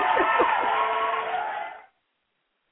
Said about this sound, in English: That was the wrong button. Hold on a second. I got to get my applause.